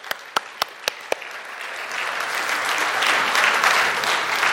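A handful of sharp, evenly spaced claps open, then an audience breaks into dense, sustained applause that swells and grows louder toward the end, with no one speaking.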